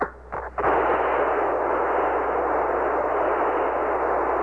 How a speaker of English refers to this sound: Should have liftoff. 26, 36 feet per second up. We're moving. Pitch over. Pitching over. Very smooth.